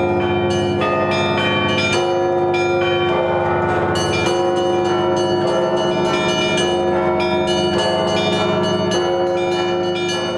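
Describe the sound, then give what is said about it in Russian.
A full peal of church bells, rung by bell-ringers taking turns, rings out loudly and continuously, overlapping strikes of several bells layering into a dense, resonant clangor with rhythmic accents every second or so, with no voices. “Звучали праздничные, воскресные, пасхальные звоны, звоны ростовской, псково-печерской, московской, ярославской традиции, а также знаменитые петербургские звоны.”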